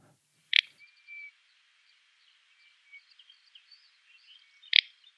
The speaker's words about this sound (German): Der Furz klingt nach Großtrappe, der brechende Zweig nach Zwergtrappe. Mhm. Zwergtrag ist eine südliche Art. Und ich fand diese Merkhilfe sehr gut. Die habe ich nämlich auch mitgebracht. Also wir hören jetzt mal den brechenden Zweig.